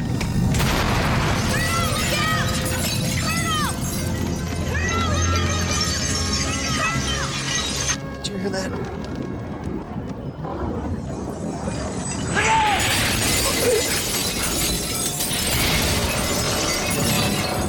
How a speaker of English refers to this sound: It's not the chair, it's the glass that's shattering.